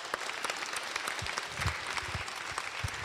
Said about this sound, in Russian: Поэтому давайте я предлагаю, чтобы мы его аплодисментами поздравим, когда он зайдет.